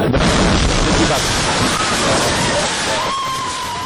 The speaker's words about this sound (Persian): لحظه انفجار امروز در عقب دروازه شورای ملی، این انفجار با درگیری مسلحانه همراه بود.